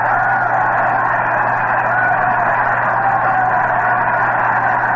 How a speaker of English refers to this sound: Listen to the roar of that crowd.